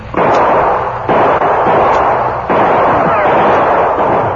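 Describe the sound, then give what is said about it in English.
Loud, dense gunfire crackles nonstop in a shootout, with the Lone Ranger and Tonto firing on outlaws. Shots from several guns overlap into a continuous roar of reports, with a few sharper bursts breaking through, and there is no talking. “The outlaws were between Bert's gunfire and that of the Lone Ranger and Tonto.”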